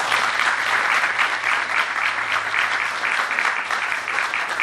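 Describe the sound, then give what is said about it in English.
Sustained audience applause for the election candidates, a dense steady patter of many hands clapping for several seconds, fairly loud and even throughout with no voices over it. “All right, let's give all of our candidates a round of applause.”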